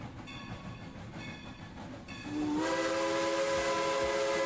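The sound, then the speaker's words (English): A steam train's whistle blows loud and sustained over a constant hiss and rumble of the locomotive on the Cumbres and Toltec Scenic Railroad, which runs 64 miles between Antonito, Colorado and Chama, New Mexico, over the San Juan Mountains, starting after a couple of seconds of background train noise. “Climb aboard the Cumbres and Toltec Scenic Railroad.”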